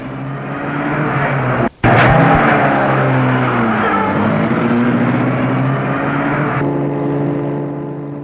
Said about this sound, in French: Il la regarde entrer chez elle et met sa voiture en route.